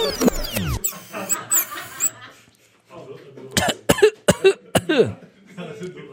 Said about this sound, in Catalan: Si es tosseca, és que es viu.